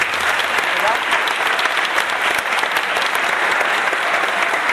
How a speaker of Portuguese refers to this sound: Hoje, por exemplo, pra manter essa performance de não igualdade com segunda-feira, teve o pessoal dos Estados Unidos, que a gente quer mais uma vez uma salva de palmas pra vocês.